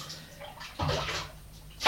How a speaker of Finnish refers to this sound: Nosta nyt takamustasi, niin minä vähän valelen vettä.